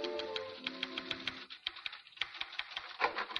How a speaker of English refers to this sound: We return you now to Dr. Christian's office, where Judy is busily pounding the typewriter.